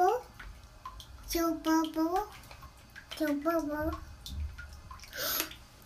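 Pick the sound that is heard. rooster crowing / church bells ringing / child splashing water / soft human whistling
child splashing water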